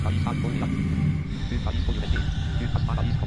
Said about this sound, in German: Ach du liebes Bisschen! Eine Hydra! Und sie knurrt gruselig, meine lieben Kinder. Sie knurrt sehr gruselig.